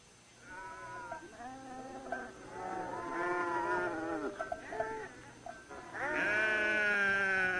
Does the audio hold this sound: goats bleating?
yes